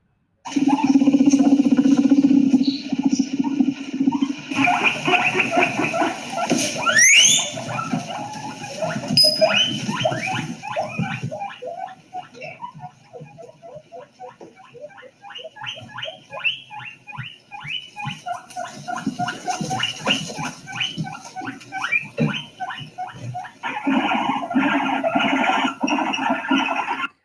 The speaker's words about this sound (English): Well, I have a guinea pig sound here for you. And guinea pigs, they make a very interesting sound. And I wonder if you can tell me what this guinea pig is saying.